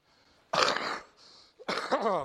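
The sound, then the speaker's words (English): Two harsh, raspy bursts of coughing and throat clearing, fairly loud, separated by a brief quieter pause, with no talking. “You almost made me cough up my tumor.”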